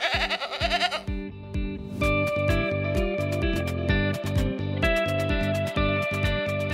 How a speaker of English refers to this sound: So the real project to get the state ready for this year's major fires involves thousands of people, millions of dollars, and, as it turns out, quite a few goats.